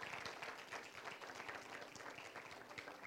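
A crowd applauds, many hands clapping in a dense, steady wash of sharp, overlapping claps that holds an even, fairly loud level for the whole stretch.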